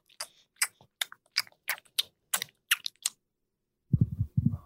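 Wet, smacking sounds of someone chewing gum, a quick irregular run of about a dozen clicks and smacks, then a brief low rustle at the end. No one talks.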